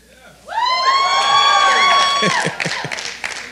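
A church audience erupts in loud cheering, led by a long, piercing scream that holds for about two seconds before breaking into scattered shouts and clapping.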